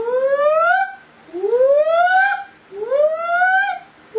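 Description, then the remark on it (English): A voice imitates the fire alarm siren at Sky Harbor airport, heard by the baggage carousel, with three rising, wailing sweeps in a steady rhythm, each climbing in pitch and then breaking off, fairly loud and with no other talk. “And they have a siren at Sky Harbor. It's like...”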